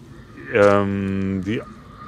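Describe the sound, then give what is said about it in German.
A single drawn-out squealing scream, about one second long, rising sharply at the start and falling away at the end; it sounds like a human voice imitating the scream of a pig that another pig keeps trying to mount. Fairly loud. “Das ist so, wenn ein Schwein der steht und der andere dauernd drauf geht und das mag nicht, dann schreien die so.”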